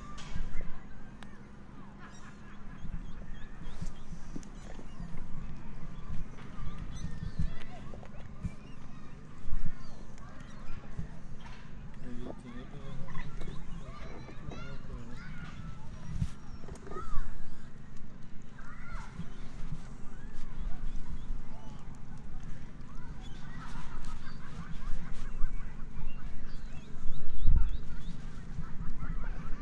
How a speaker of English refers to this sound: this is Priory Park in Malvern, where we've just been watching different bands and dancing and things for the Jubilee, but it's all finished now.